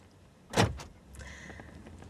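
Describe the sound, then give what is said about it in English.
A sharp mechanical clunk of a car's master lock locking the doors after they are pulled shut, followed by a quick second click and a faint whirring hum inside a quiet car. “Brian locks them.”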